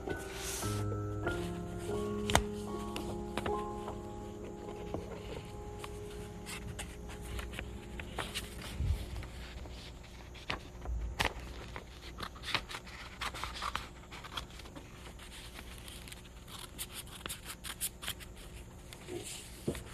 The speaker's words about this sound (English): Just cut that little door in the paper, the top paper.